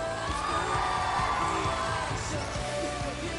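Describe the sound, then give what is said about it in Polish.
A large crowd in a hall in Pleszew applauds and cheers steadily, a dense, continuous wash of clapping with shouts and whoops rising through it, loud and sustained from start to finish. “Wielkie brawa dla Maxa.”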